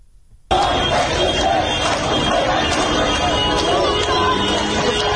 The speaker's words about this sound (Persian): در تهران ماموران امنیتی به تجمع اعتراضی پزشکان حمله کردند. صدای این تجمع رو با هم خواهیم شنید.